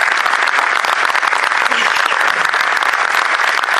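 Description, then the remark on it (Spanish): Sustained applause from an audience at an award ceremony for researchers from Fundación CTN and the Centro Nacional de Investigaciones Metalúrgicas (CENIM), a dense, steady wash of many hands clapping at even loudness for several seconds with no talking over it. “Un aplauso para ellos.”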